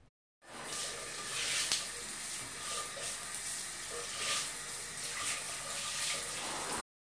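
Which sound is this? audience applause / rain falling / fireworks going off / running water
running water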